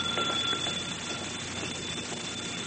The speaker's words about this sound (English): But why is the telephone ringing?